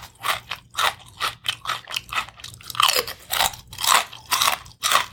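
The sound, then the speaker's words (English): Loud, crisp crunching of ghost pepper potato chips being chewed, a steady run of about a dozen sharp bursts over five seconds, with no talking. “We're going to try it with the Ghost Pepper Chips.”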